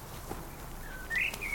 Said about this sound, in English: I love hearing the birds in the trees because it sounds relaxing. Yeah, I like the countryside, listening to birds, smelling the fresh air.